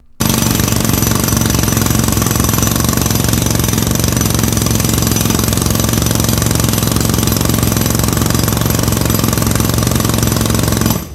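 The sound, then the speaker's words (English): A Tex 220 pneumatic rock breaker hammers away loudly, a dense, relentless rattling roar that starts abruptly and runs without pause for about ten seconds, with no voices. “If the angle of the Tex 220 pneumatic rock breaker's drill bit had been just a little less acute, instead of planing harmlessly across the top of the coffin lid, it would have pierced right through it.”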